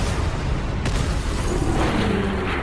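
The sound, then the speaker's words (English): A massive video game mini nuke explosion erupts with a sharp blast, then a dense, roaring rumble that keeps churning for a few seconds, loud, with no voices. “Sorry, we just had a nuclear explosion. Yeah, I set off a mini nuke.”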